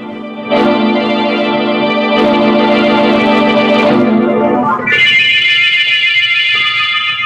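household object, doorbell ringing

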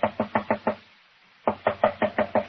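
household object, knocking on a door

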